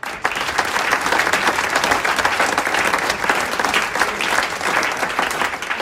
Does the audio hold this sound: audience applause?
yes